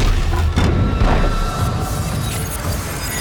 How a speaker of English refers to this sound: I watched as the stones around them slowly lifted from the ground, swirling like the clouds overhead. They thundered as they dropped into place, rebuilding the church anew.